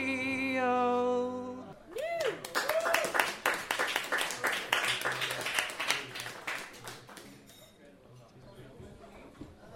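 A sustained electronic tone cuts off into a burst of audience clapping with a few whoops and cheers. The applause is dense for several seconds, then thins and fades out.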